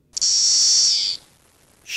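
A voice imitates the white-noise song of the periodical cicada Magicicada cassini: a loud, steady high hiss for about a second, a short silence, then a second hiss begins. No other sounds.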